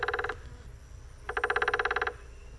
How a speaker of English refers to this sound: So just like the tapping sounds of Morse code used to communicate, it's believed that woodpeckers drum both to inform others of their species that this is their territory and attract and maintain